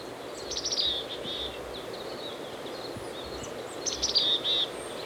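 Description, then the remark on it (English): Two short bursts of high, thin calls from a chickadee foraging in pine branches on a steep hillside by side road E24 stand out, one early and one near the end, over a steady hiss of wind and a stream. No one speaks. “I've caught up with the chickadee on a steep hillside.”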